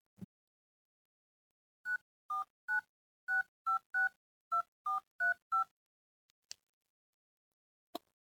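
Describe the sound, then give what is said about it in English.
A rapid string of about eleven short, evenly spaced touch-tone beeps as a phone number is punched in on a keypad to call a child's mother, clear, followed by a couple of faint clicks. “I already tried calling her, sweetie. She's not picking up yet, but you know what? I'll try again.”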